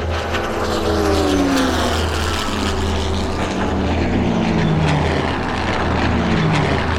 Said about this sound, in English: My plane is old, but she still has a few tricks up her sleeves.